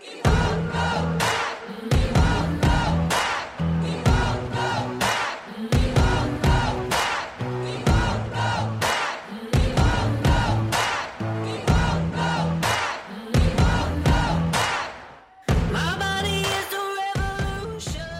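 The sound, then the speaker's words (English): A large protest crowd chants the slogan "We Won't Go Back" in unison, loud and repeated in a steady driving rhythm, before the sound abruptly changes near the end to a brighter, more tonal passage. “And then I saw the video that I took when we were shouting, We Won't Go Back.”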